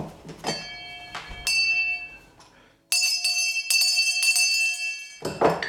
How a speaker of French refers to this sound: Puis pour les appeler, pour les repas, il y avait une cloche. Je peux peut-être la faire sonner.